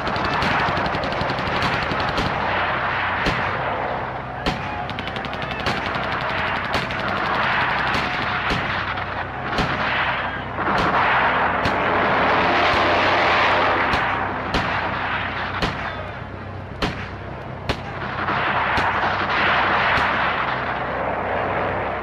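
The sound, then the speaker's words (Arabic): Sustained heavy gunfire with repeated sharp cracks and booming blasts over a dense, roaring background rumble, continuing at high loudness throughout with no speech. “لماذا تطلقون النار؟”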